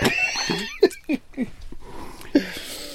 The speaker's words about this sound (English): Oh dear, and I'm coughing up sputum.